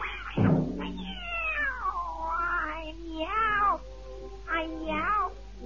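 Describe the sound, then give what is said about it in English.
Three long, wavering meows rise and fall one after another in a comic song, loud, the first opening with a short scuffing thump; no talking, just the drawn-out cat calls. “Oh, you want to get out to your boyfriend, do you, kitty?”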